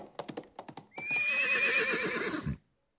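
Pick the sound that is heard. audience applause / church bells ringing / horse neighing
horse neighing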